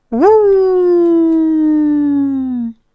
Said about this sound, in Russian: Первый сыщик, подняв морду, издал собачий вопль отчаяния. Второй сыщик сделал то же самое.